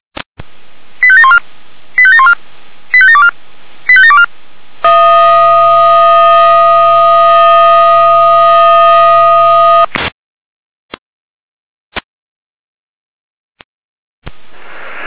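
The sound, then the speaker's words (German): A fire brigade alarm tone over radio, alerting the volunteer fire brigade of Wöllnitz, Jena, to a drone deployment: four short, rapid tone bursts, then a loud, steady electronic tone held for about five seconds, followed by a few sharp clicks and quiet static. “Jena mit Alarmierung.”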